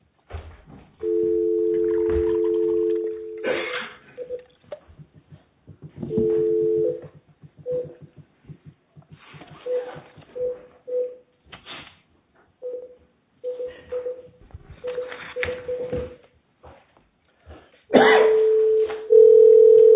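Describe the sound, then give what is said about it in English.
A steady dial tone hums, then a series of short touch-tone beeps punches in a number, followed by ringing tones on the line, all clear with no talking; the United States Court of Appeals for the Federal Circuit phoning a participant for a case heard in part by phone. “The next case is going to be done in part by phone.”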